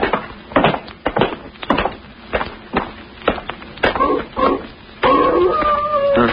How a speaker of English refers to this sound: Huh? What's that? Sounds like a wolf. That ain't what the wolves sound like down in California. You're thinking of the Hollywood kind. This is the real McCoy.